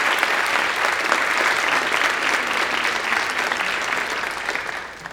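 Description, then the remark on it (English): A steady round of applause from an audience for a musician, dense and even clapping at a strong level that holds for several seconds before starting to thin out near the end. “So in August, he traveled to China, where he was a featured performer as a soloist and a chamber musician in this year's festival, and I would like to give him a round of applause.”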